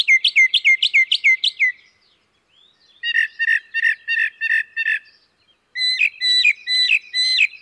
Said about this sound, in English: The mockingbird's song has the same tonal quality as a thrasher or catbird, but the mockingbird repeats most phrases two or more times, so we hear most of its sounds in triplets or more.